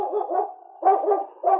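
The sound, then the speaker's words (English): Yukon King, the husky lead dog of the radio show Challenge of the Yukon, gives a few loud, drawn-out bark-howls, three rising yelps in quick succession with brief dips between, and no voices. “It's Yukon King, the swiftest and strongest lead dog of the Northwest, blazing the trail for Sergeant Preston of the Northwest Mounted Police in his relentless pursuit of lawbreakers.”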